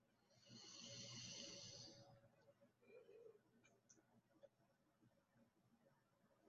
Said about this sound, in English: Ooh, that one was big. Hence why I yawned before I could get that wording out.